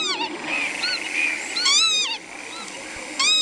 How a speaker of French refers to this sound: Alors cet oiseau, c'est quoi ? C'est un vanneau huppé.